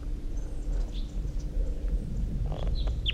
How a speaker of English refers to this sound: Wild bird. Recording. Wild bird's coming in. Wild bird in flight. Wild bird song phrase.